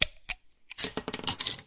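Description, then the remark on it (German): Drink containers clink together in a toast at the end of the working day: a couple of light taps, then a bright flurry of clinks and rattles lasting about a second, with no voices. “Feierabend, Prost.”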